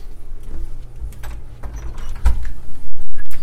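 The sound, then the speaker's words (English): An apartment door is opened to go out, with a few soft clicks and handling knocks over a low rumbling background, followed by heavier thumps toward the end; no one speaks. “And we're going to go out the door and take a left and go down a few doors.”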